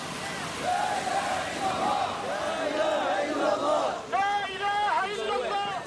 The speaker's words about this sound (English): Bonn, Germany, 2012. Protest footage plays.